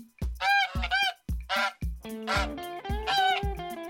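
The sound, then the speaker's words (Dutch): Geese honking loudly on a grassy area in sunny weather, a rapid series of harsh, nasal calls overlapping in quick succession with no pauses, with no talking. “Er lopen wat eenden en ganzen in het rond.”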